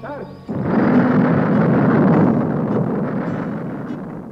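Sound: rocket launch rumble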